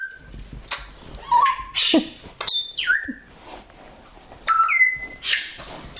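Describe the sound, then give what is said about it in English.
A pet bird named Kendra, beside a sofa, chatters in a busy run of chirps, whistles and rising squawks, interrupted by a few bright jingles as she rings her small bell. “You can probably hear her chatting and ringing her bell.”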